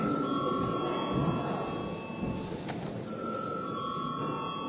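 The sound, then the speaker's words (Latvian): A parliament voting bell rings as a steady, high electronic tone, briefly breaking off and then resuming, over a low background murmur of the chamber. “Paldies, lūdzu uz zvanu.”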